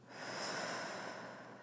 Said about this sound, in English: Breathing in. And breathing out.